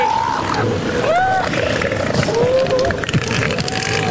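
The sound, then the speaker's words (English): Seals calling during mating: several sliding, whistle-like cries that rise and fall in pitch, heard over a steady, rushing underwater-style background noise, with no talking. “Feel good is to explore what the sound of seals mating sounds like.”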